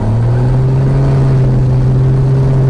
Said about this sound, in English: When that throttle gets super loud, you'll hear it. That's when we go screaming down the runway. Once I'm in the center line, I get a full throttle. Right here. If I don't like it, I can abort.